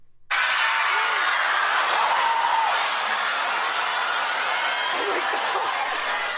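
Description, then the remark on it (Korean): A large crowd roars and cheers continuously as shoppers rush into a store on Black Friday in the United States, the day after Thanksgiving, a dense wall of excited voices that starts abruptly and stays loud throughout. “네, 뭐 함성 소리인데요. 물건을 사려고 매장 안으로 들어가는 소리인가요?”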